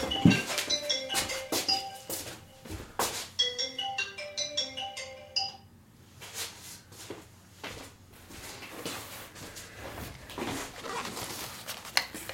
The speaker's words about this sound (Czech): Ještě jednou se omlouvám, to byl nějaký posluchač, který si vůbec neuvědomí, že když se vysílá naživo, takže nemůže volat. A vzhledem k tomu, že nabíjím telefon, jsem nevypnul zvonění, je to moje chyba.